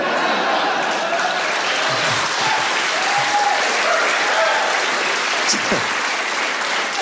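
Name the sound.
audience applauding and cheering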